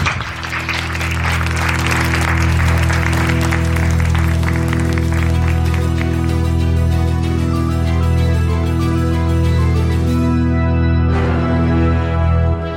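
An audience claps loudly over a sustained, droning musical chord. The applause gradually thins out and fades, leaving the steady music playing alone, with no voices.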